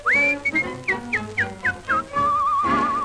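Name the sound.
cheerful whistled tune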